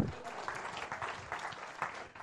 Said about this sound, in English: Let's give Andy a clap.